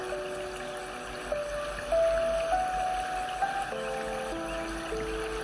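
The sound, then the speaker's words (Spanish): Steady, soft rushing of a running mountain stream carries on throughout, with a slow, gentle musical tone playing over the water. “Concéntrate hasta que escuches el murmullo de las aguas.”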